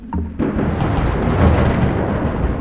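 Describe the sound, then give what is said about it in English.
A sudden, loud crack of thunder from a storm bursts in, then rolls straight into a heavy, sustained rumble that fills the rest of the moment. No voices are heard. “A crack of thunder sends a shudder through them and passes into us.”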